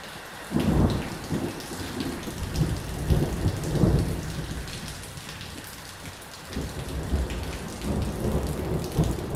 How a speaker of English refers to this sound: A thunderstorm rages east of Johannesburg. Rain hammers the corrugated iron roof of a small house in a bleak township.